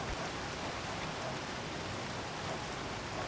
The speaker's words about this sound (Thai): ตอนนี้อากาศในร้านค่อนข้างเย็นฝนดูท่าทางว่าจะตกหนักขึ้นและยังไม่มีวี่แววว่าจะหยุด